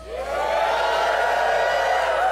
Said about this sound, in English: And I want you to really shout whenever you hear this. It's the key of repentance.